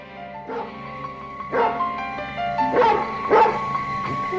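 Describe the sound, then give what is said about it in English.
A dog shut in with the windows closed barks repeatedly in short, sharp bursts, about five woofs spaced irregularly, loud, with a faint steady hum underneath. “Is this your dog?”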